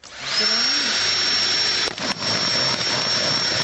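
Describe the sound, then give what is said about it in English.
A high-pitched electric drill spins up and whines steadily, loud, with a brief dip as the bit bites through thin plastic, then keeps running. It is making a hole about 5 or 6 millimetres across in the side of a plastic bottle, very close to its base. “Dave's basically whacked his drill straight through the bottom of that bottle”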